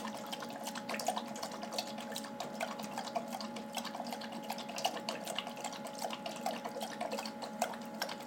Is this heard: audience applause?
no